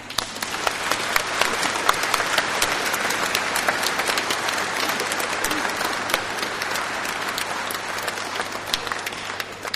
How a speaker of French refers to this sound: Nous saluons la présence de Jésus présent parmi nous. Applaudissons-le.